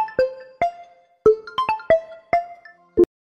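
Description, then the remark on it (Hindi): A phone ringtone for an incoming missed call plays a short, bouncy melody of about eight bright, plucked-sounding notes, each decaying quickly. It is fairly loud, with no talking over it. “Hello hello hello, कौन लड़की miss call मारती है भाई?”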